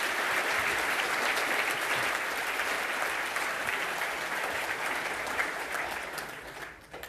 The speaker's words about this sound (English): So I want to hear a really loud and warm applause